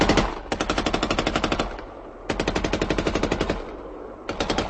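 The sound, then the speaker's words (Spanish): Machine-gun fire from German Luftwaffe aircraft attacking the railway station at Lublin rattles out in three long, rapid bursts of sharp, evenly spaced shots, loud and harsh, with brief gaps between bursts and no voices. “Mientras el tren daba marcha hacia atrás, los pasajeros saltaron de los vagones buscando dónde esconderse ante el bombardeo y el fuego de ametralladoras de los aviones alemanes.”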